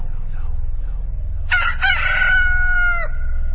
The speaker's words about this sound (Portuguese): E no mesmo instante o galo cantou.